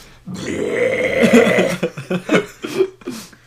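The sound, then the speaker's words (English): A long, deep, rumbling burp lasting over a second, loud, followed by several short choppy bursts like chuckles. Someone deliberately imitating the character Beast burping. “Imagine Beast burping.”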